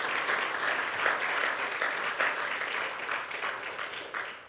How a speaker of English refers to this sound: Come on, bless the Lord with a hand clap of praise.